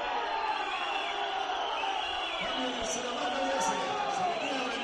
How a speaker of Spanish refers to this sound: Abucheos para Jorge Mora, no le ha gustado al pueblo el partido de Jorge Mora. Se retira el 10.